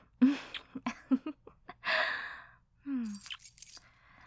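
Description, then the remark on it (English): Keys jangle in short bright bursts of metallic clinking as they are taken out to get in, mixed with breathy vocal sounds and a soft gasp from someone. “Jeez, at least let me get my keys out so we can get in.”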